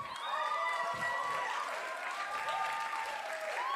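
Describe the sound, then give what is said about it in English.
An audience standing, applauding and cheering someone on steadily, with dense clapping and overlapping whoops and shouts of excitement, sustained at an even level throughout. “Hey, everybody stand up. This is awesome. I want you to cheer him on right now.”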